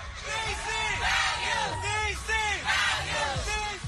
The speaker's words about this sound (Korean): 뉴욕이나 로스앤젤레스 등 미국의 대도시에서는 매년 동성애자 축제가 열립니다. 성소수자 운동을 상징하는 무지개 깃발을 흔드는 사람들. 남장을 한 여성이나 여장을 한 남성 등이 행렬하고 자신들의 성 정체성을 존중해 주기를 요구하는 구호를 외치기도 하죠.